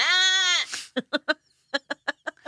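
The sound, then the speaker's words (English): A person imitates a goat, giving a loud, wavering bleat that trails off, followed by about seven short, choppy vocal bursts in a quick, uneven rhythm. “It's a good goat. It's not bad, impression.”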